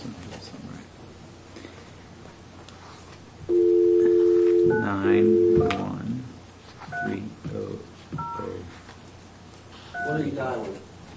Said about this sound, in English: Trying to dial a phone number.